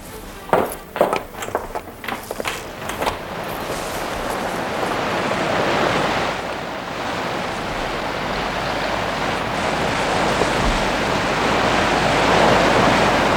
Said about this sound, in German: Ist das ein Wind?